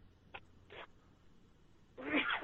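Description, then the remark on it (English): Two quick, faint puffs of breath, then a sudden, forceful sneeze bursts out near the end, louder than anything before it, with no talking in between. “Bless you.”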